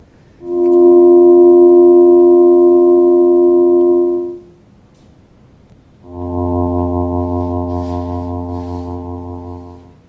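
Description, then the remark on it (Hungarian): Two sustained electronic chords sonified from the pulsation of variable stars, each a stack of steady pure tones held for several seconds: the first a bright multi-note drone, then after a short gap a lower, denser chord with a faint pulsing wobble. “Hogyha két hang szólal meg egyszerre, vagy netán három, mert az is előfordul, a nagyobb amplitúdóval változó csillagok között is”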